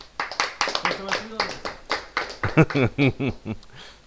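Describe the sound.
Scattered audience applause, a run of sharp, uneven claps, mixes with a speaking voice during the first half. The clapping then fades as the talking carries on alone.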